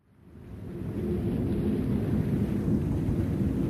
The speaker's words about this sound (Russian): Ветер усилился, и временами из-за леса до нас долетал какой-то странный гул, а иногда там что-то потрескивало, постановало и подвывало.